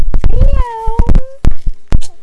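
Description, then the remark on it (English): A single drawn-out cat meow, wavering then holding steady, surrounded by sharp clicks and soft thumps. “You wanna find a cat? Where is the cat?”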